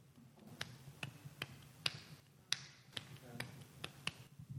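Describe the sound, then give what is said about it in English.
Hand clapping demonstrated to show how to clap, in a steady, slightly uneven rhythm: around ten sharp, crisp claps over a low, murmuring background hum, with no clear talking over them. “And it's like somebody had told people, Don't clap like clutches.”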